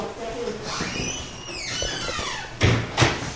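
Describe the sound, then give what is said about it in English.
A door creaks open with a drawn-out, rising and falling squeal as a son heads out after hugging his mother, then shuts with two quick, solid knocks, over a faint murmur of background noise. “Knight hugs his mom on the way out the door”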